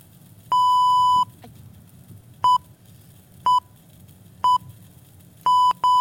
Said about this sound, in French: je propose qu'on introduise une petite sonnerie toutes les 50 secondes en hommage à l'homme ou la femme qui meurt toutes les 50 secondes en France.